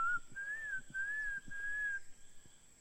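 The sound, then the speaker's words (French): Bird song: a clear, sustained whistled note that wavers gently in pitch, broken into a few connected phrases over about two seconds, with faint low knocks underneath and no voices. “Tu connaissais les oiseaux qui sont tout à l'heure? Non. C'est qu'on vient d'entendre là?”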